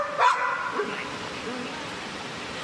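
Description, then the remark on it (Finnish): A small dog gives one sharp, high yap right at the start at a dog daycare in Central Finland, then the place settles into a steady background hum with faint indistinct murmuring and shuffling. “Tuossa poloniesemerkkinen pieni koira nimeltään Sebastian tuli hoitoon eväitten kanssa”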